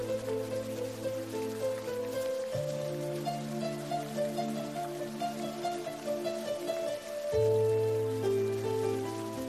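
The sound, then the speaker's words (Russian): Steady rain patters on leaves, a dense crackling hiss of drops throughout, mixed under soft sustained musical chords that shift twice. No voices. “Обложили небо тучи грозовые и стучат по листьям капли дождевые.”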